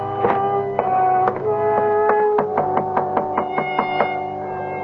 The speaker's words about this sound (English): No one answered my knock.